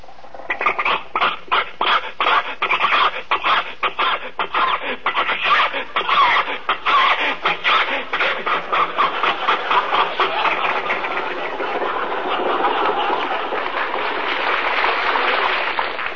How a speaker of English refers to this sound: think your car will make this hill, Jack? Sure. Rochester, give it a little more gas.